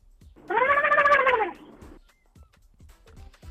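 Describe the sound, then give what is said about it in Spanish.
A turkey call: a single loud, drawn-out tonal cry lasting about a second, its pitch arching up then down, heard alone with only faint clicks afterward. “Sonido que opta, el del pavo.”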